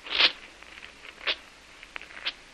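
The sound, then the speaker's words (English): A written paper document is torn up in three quick, rasping rips spaced about a second apart, with faint crinkling between them; quiet, with no voices. “So I tear up the paper and burn it.”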